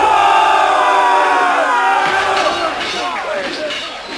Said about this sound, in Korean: 양쪽 군대는 함성을 지르며 접근했다.